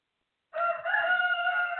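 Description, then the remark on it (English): A rooster crows during a worship service, after a brief silence, a loud, sustained, nasal call with strong harmonic bands that rises slightly in pitch and holds steady through the end. “I guess the rooster want to help me sing.”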